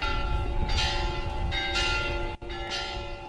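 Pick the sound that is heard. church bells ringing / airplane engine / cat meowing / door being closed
church bells ringing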